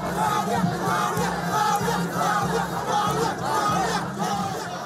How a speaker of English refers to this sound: Huge crowds of Liberians gather at the party headquarters to celebrate George Weah's presidential win.